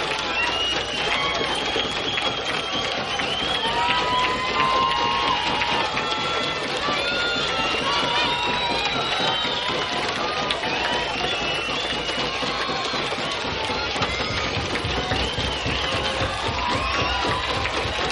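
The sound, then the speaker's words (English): A concert crowd waiting for the band to return for an encore pounds its feet, claps and bangs glasses in a loud, dense, steady clatter of rapid hits, with shouting and whoops rising above the din throughout. “Of pounding of feet, hands, glasses, and one person holding a lighted match in the middle of the crowd.”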